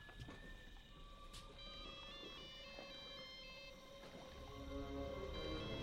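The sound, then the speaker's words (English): A phone's electronic ringtone melody plays faintly, as if from some distance, on a riverbank at night, its tones repeating continuously over a steady wash of outdoor noise that grows slightly louder toward the end. “Find it before it stops ringing!”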